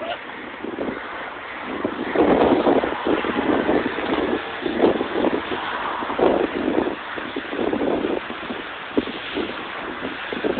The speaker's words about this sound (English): Kind of, sort of, it's a little windy. Umbrellas can get a little tricky in the wind.